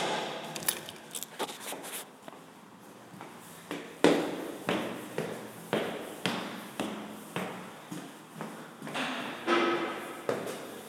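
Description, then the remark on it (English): Steady footsteps climb the front wooden staircase of a building, each step a hollow, resonant thud landing at a regular pace, fairly loud, with faint creaks and rustles in between and no talking. The walker is not using a cane. “And this time, just for grins, I'll take the front staircase. See if that sounds any different.”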